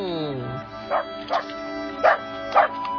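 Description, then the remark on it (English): A dog barks four times in short, irregular bursts, moderately loud, after a brief falling whine at the start. “Beautiful animal, mammal, canine, dog, mutt.”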